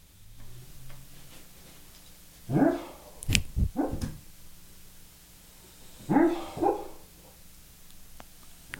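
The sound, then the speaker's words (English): A dog named O'Neill barks in two separate bursts of several vocal, howl-like barks each, with a short gap between them and a faint ticking in the background. “O'Neill is really, really talking up a storm over there.”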